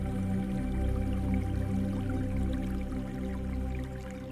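nature, creek water flowing

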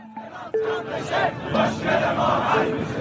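crowd, protesters chanting slogans

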